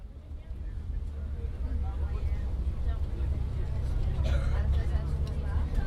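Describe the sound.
A steady low engine rumble fills a moving bus carrying a 6th-5th grade school class to visit the Albert-Londres museum in Vichy, with a constant drone and muffled voices chattering faintly underneath throughout.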